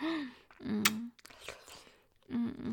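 Wet slurping and sucking mouth sounds with a sharp click, broken up by brief humming vocal tones at the start and end, quiet and intimate; a person slurping spit back up.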